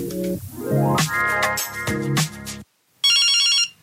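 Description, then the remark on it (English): A phone ringtone for a call from an unknown number plays a bright, melodic electronic jingle of stepping tones, breaks off into a brief silence, then resumes with a higher, buzzier ringing burst. No one speaks. “Who's that again? I don't know that number.”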